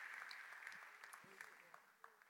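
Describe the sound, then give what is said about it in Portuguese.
An audience applauds God at a church service on the last Sunday of November, a dense, steady wash of many hands clapping at an even level throughout, with a few sharper claps standing out and faint voices mixed beneath. “Quem pode dar um aplauso a esse Deus maravilhoso?”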